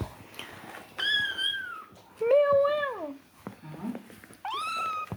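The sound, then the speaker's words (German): Cats fighting, yowling and meowing in three long, drawn-out, wavering cries, with scuffling and rustling noises between the calls. “Ja, Leute, das ist Katzenkloppe live.”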